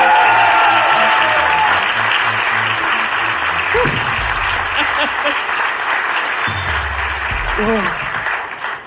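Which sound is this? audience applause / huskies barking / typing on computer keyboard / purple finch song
audience applause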